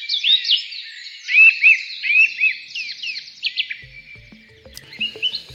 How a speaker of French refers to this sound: Voilà quelques chants d'oiseaux dans cette chronique de Bruno David